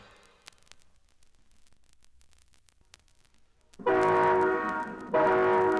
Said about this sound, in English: There goes old Rocky's favorite train, Great Northern's incomparable Empire Builder, on her daily run from the Twin Cities to Seattle, Portland.